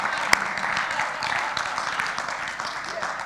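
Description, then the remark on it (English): An audience, mostly men, claps steadily throughout, a dense, crackling wash of many hands with one sharp louder clap near the start and faint crowd voices mixed in. “I noticed that it's mostly men clapping, okay, but they did a good job, didn't they?”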